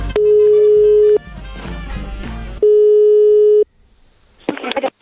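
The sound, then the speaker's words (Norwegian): A steady telephone ringback tone sounds twice, each about a second long, with music filling the gap between, followed by a short burst of crackly noise at the end. It is an outgoing call placed by the humour radio programme Radiotjenesten on Radio Nova. “Denne uka så skal vi prøve å ringe ei som heter”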